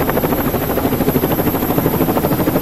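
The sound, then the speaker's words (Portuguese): A helicopter roars overhead, its rotor blades beating in a fast, steady thumping rhythm over a dense engine drone, loud and continuous with no voices. “Pra esses vagabundos passear de pirocóptero aí.”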